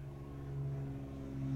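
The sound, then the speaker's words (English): A plane's engine drones steadily overhead in California, where planes of all kinds, including Cessnas and jets, pass over. A low, buzzing hum with layered harmonic tones slowly grows louder over the short stretch, with no voices. “As you see the ambient noise that I mentioned, planes of all kinds, Cessnas, jets, everything going overhead here.”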